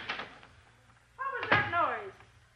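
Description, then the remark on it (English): A door thuds at the start as somebody comes in at the door, then another solid bang follows a second later, with voices or a creaking sweep overlapping the second impact. Both sounds are clear. “Somebody's at the door. Probably Beams Taylor with a gun. Come in.”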